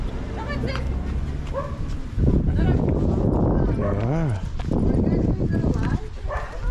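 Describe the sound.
A dog barks and yips in short bursts over a busy, noisy outdoor background, with people talking.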